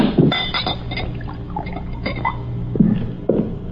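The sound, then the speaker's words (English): A drink is poured into a glass inside a wagon, with a splashing, gurgling flow and a few light clinks of glass, with no voices. “Pour this down.”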